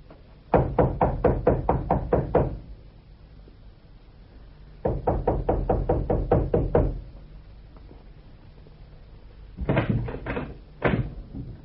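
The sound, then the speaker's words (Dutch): Loud, rapid knocking on the door of a closed little house in three bursts: two long runs of about eight to ten sharp raps each, then a shorter, slightly uneven set of a few knocks. No voices. “Dit beste wachter is juist de reden van ons kloppen.”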